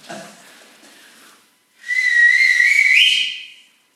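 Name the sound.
person whistling a tune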